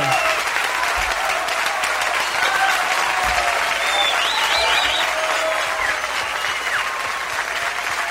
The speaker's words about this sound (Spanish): Muchos aplausos, ¿no? Sí, muchos.